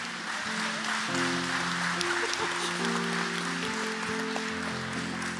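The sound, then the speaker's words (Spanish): An audience at a church service claps steadily and loudly for several seconds after a prayer, a dense wash of hand claps. Sustained low keyboard chords hold underneath the clapping throughout. “Un aplauso fuerte.”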